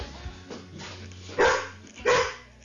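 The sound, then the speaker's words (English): A dog named Echo barks twice on command, loud, the two sharp barks spaced under a second apart after a quiet stretch of low background noise. “And Echo is here, on command.”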